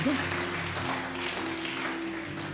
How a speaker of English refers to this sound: Clap your two hands for them.